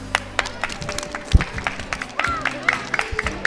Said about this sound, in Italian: Fatevi un applauso.